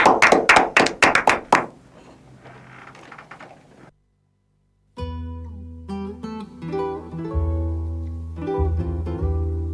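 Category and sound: crowd, studio applause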